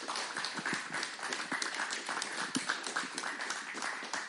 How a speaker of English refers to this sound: God bless your church. God bless you, ladies. Give them a great round of applause.